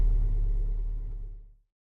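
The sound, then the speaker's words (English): A car engine rumbles low and steady, idling while crawling through slow city traffic in a short queue at traffic lights, then fades out abruptly after about a second and a half. No voices. “Sorry, it's just so slow. I hate driving in the city.”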